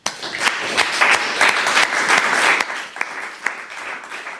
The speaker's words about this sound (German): Also ein ganz großer Applaus für die Sieger und auch für alle anderen, die teilgenommen haben, auch für die, die jetzt nicht da sind, die können sich das Video angucken. Deshalb auch nochmal für alle Teilnehmer einen großen Applaus.